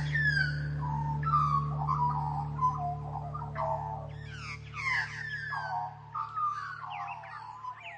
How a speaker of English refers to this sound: Once you pay attention to a magpie's voice, you can't unhear it. And after mentally connecting that voice to those big, playful black and white birds, bird watching becomes a whole lot more interesting.